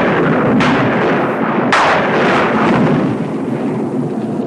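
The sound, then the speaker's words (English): A Hollywood stock lightning-and-thunder sound effect from a stock sound library: two sharp, loud cracks in quick succession, each breaking into a dense, sustained rumble that fills the whole clip with no voices. “They would use, you know, big caches of Hollywood stock stuff, and one of them is the sound of lightning, and that's what you got a ton of this from.”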